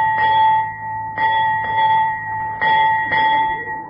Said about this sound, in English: Padre, that was 8 bells. It's 4 o'clock.